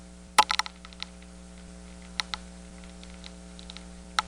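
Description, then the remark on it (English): Northern corn rootworm larvae, a Diabrotica species, chewing on corn roots make sharp, irregular clicks: a quick cluster at first, then scattered ticks, all over a steady low electrical hum. “Now, this is a northern corn rootworm, I assume, munching away at the corn's roots.”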